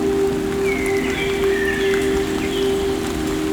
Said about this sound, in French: Et une légère pluie à présent.